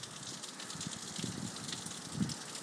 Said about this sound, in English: It is blowing a gale outside. Oh, God, there's the rain.